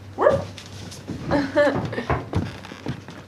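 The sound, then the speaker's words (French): A household dog whimpers near the microphone in a few short, high, wavering whines spread across a few seconds, with soft rustling and a faint voice in the background. “Ouais, voilà, fais une petite léchouille au micro.”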